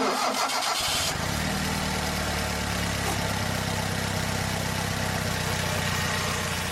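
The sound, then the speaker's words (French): A car engine cranks briefly, catches and roars to life, then settles into a loud, steady rumbling idle with a slight rev, with no one speaking. “Alors, c'était quoi qu'on a écouté comme moteur de voiture ?”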